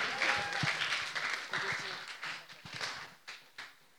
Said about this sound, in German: Hey, Dankeschön, ein Applaus.